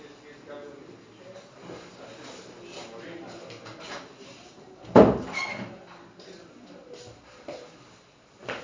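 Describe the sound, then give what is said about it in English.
A door shuts with a single solid thud about midway through, standing out clearly against quiet surroundings with faint, indistinct murmuring and light shuffling in the background. “Perhaps I'll just close the door.”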